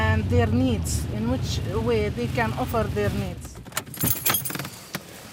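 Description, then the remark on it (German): People talk for a few seconds, then a car door clicks open and a Palestinian woman climbs out amid sharp rattles, jangles and a few thuds, at the village of Al-Jib; the car's engine is still steaming. “steigt aus dem Auto.”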